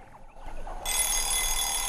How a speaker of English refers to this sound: An alarm clock rings, and a woman wakes up in her bed to turn it off.